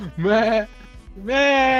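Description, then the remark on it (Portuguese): A person imitates a sheep with two loud bleats, each a wavering nasal "baa" separated by a short pause, with no speech around them. “Eu tinha uma criação de ovelha do lado da minha casa, mano. Então toda vez que eu tava em casa, eu ficava assim, tá ligado?”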